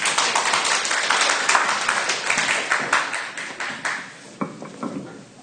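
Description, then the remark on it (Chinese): An audience applauds to welcome a speaker invited to share, with dense, steady clapping that holds for several seconds, then thins out into a few scattered claps near the end. No voices can be heard. “大家鼓掌欢迎他。”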